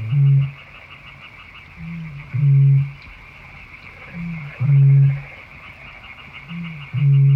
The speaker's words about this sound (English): Yeah, it's a bittern. They don't actually breed here, but you can hear them in winter. Nothing booms like a bittern.